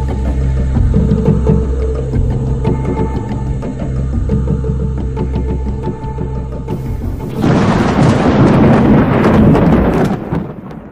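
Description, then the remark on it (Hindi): Steady rain falls with deep, rolling thunder rumbling low throughout, then a louder crash of thunder breaks in near the end and roars on for several seconds. No voices. “बारिश हो रही थी और तनवीर बेहद गमगीन था।”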